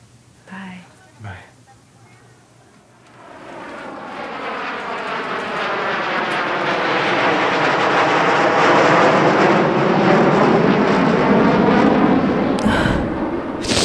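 A loud airplane engine roars up from near silence and holds a steady, rising whine and rumble, like a jet taking off. A couple of brief sounds come before the roar starts.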